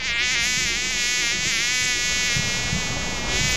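A housefly buzzes steadily, a continuous droning whine that wavers slightly in pitch, with no voices present.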